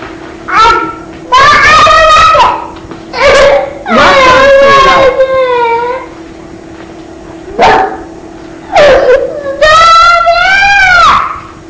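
Loud, high-pitched screaming and wailing comes in repeated long bursts with wavering, sliding pitch and short pauses between cries, alone with no talk over it.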